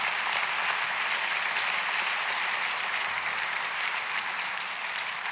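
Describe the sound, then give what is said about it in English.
A crowd of people clapping steadily to encourage others, a dense, even wash of applause that holds at full volume without breaks for about five seconds, with no voices standing out. “If some of you have made some of those decisions in the past and it's brought such amazing roots and fruit, would you clap to encourage someone today that needs to make those decisions?”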